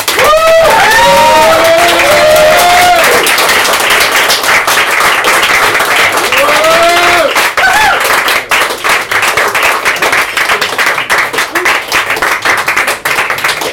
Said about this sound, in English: Thank you so much. That was the amazing Brendan Constantine. Big round of applause.